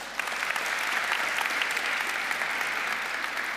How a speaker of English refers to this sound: I would also like to thank the Foundation for Polish-German Cooperation. I haven't seen, is anybody here from the foundation? Thank you very much for making this possible. Hello. This is your round of applause.